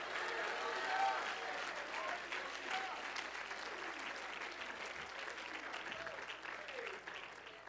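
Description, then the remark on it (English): A crowd claps steadily and loudly, with scattered shouts and cheering voices mixed into the dense, sustained applause throughout, as an audience claps and shouts to God at a preacher's call. “My God, somebody clap your hands and shout to God.”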